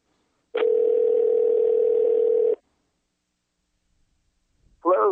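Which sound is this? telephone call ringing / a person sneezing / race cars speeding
telephone call ringing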